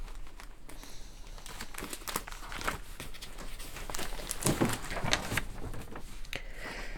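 A small piece of paper is crinkled and handled, producing irregular dry crackles and rustles that come in bursts over several seconds, with no talking.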